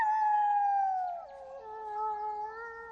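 wolf howling

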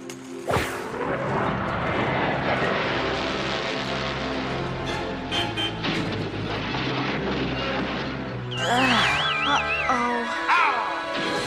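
airplane flying past

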